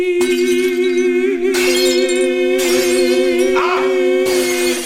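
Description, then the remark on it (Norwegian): A voice holds a loud, steady sung note while all the glasses in a studio shatter in several bright, crashing bursts over it, each break spraying crisp tinkling fragments. “Nå knuste alle glassene I studio.”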